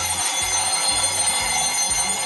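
A bell, rung by a man in a festive video, rings in a steady, rapid metallic trill throughout, loud and bright, with a low thumping pulse repeating about twice per second underneath. No one speaks.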